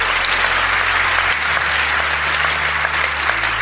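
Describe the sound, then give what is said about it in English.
A crowd applauds steadily, a dense, continuous patter of many hands clapping at an even, fairly loud level throughout, with no voices standing out. “So thank you so much to them and a big round of applause to them.”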